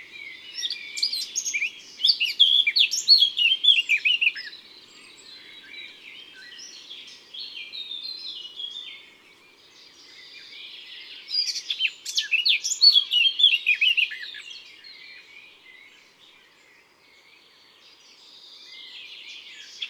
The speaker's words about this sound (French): Dans son chant, on peut distinguer un préambule grinçant et peu sonore qui se transforme en un joli sifflotis clair et animé avec souvent un forte final. Écoutons une autre fauvette à tête noire.